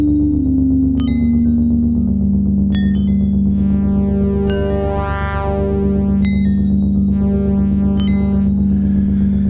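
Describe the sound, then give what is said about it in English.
A loud, sustained electronic tone drenched in reverb, with bright pinging notes that ring out and smear into a washy, echoing drone. No one speaks. “How am I gonna do a show without a reverb? Because that does sound pretty cool.”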